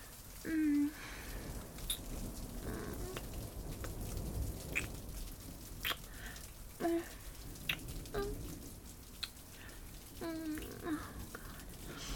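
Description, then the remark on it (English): Heavy rain pours down outside in a steady, dense hiss, with scattered sharp drips and a few short, nasal quack-like calls cutting through at intervals. No one speaks. “It's raining so much outside.”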